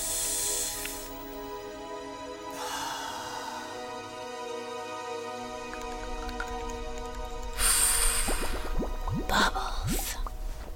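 Wet, bubbly popping and dripping sounds, with bursts of fizzing hiss and quick rising blips toward the end, moderately loud, with no one speaking.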